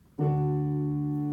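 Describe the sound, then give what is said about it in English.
A keyboard chord struck once with the sustain pedal down, its full, bright tones ringing out steadily without fading much. No one speaks over it. “And then if you put the sustain pedal on,”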